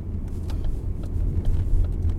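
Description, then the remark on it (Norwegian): Steady low road rumble of a car driving on a winter road inland toward Raufoss on the west side of Mjøsa, with snowplough banks rising higher along the car windows, heard from inside the vehicle, with faint scattered ticks above the drone and no one speaking. “På utsida av bilen kommer snøbrøytekanten høyere og høyere opp i bilruta, til lengre inn i innlandet jeg kjører.”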